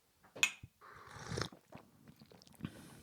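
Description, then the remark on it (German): A loud slurp of tea pulled through the lips for about a second during a tea tasting, preceded by a small click and followed by quieter mouth and swallowing sounds. “Ja, dann, ja, gut Schlürf. Prost, ne? Gut Schlürf.”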